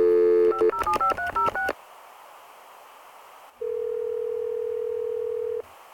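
A rapid run of touch-tone beeps as a number is dialed, then a short pause and one long, steady electronic ring on the line, clear with no talking.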